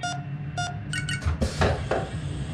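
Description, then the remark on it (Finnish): An airlock inner door opening to let someone inside: two spaced electronic beeps, a quick pair of higher chirps, then loud bursts of hissing, clanking mechanical noise, with no voices. “Avatkaa tämä ilmalukon sisäovi, että minä pääsen sisälle.”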